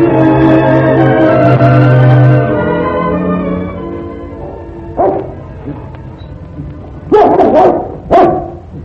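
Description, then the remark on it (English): A dog, Raggedy, barks in a few sharp, loud bursts at a man standing on the curb, irregularly spaced, after a sustained harmonic tone fades out; faint murmurs fill the quieter gaps between barks. “Bark at me, dog.”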